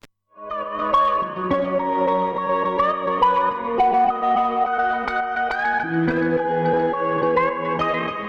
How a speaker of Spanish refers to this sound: ¿Te parece que escuchemos un poquito de la canción que da título al LP, al EP, que tiene seis canciones?